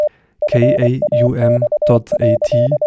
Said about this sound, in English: This is a transmission of an encoded digital picture over a civil terrestrial radio network, a radio fax. You can decode it using your computer.